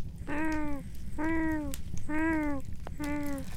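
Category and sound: animal, cat meowing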